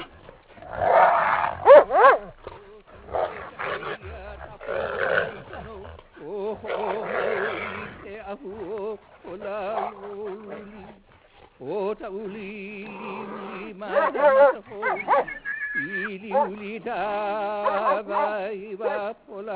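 Hunting dogs bark and yelp repeatedly in excited, irregular bursts during a wild pig hunt in Hawaii, with whining tones mixed in; the sounds are fairly loud, with stretches of overlapping vocalizations throughout.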